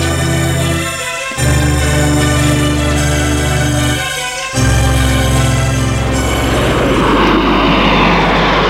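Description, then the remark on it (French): A small private plane's engine drones loudly, its steady hum shifting pitch twice before a rush of wind-like noise builds over the final seconds; the private plane is flying Maurice to Lyon, due to land at Saint-Olas airport. “Maurice va à Lyon en avion privé.”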